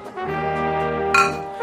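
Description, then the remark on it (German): A single bright clink of glasses rings out near the end, over a steady, sustained instrumental drone that fills the whole short moment. “Jetzt wird's zünftig. Prost.”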